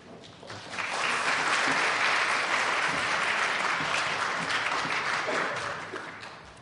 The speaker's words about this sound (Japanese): 拍手を持って歓迎いたしましょう。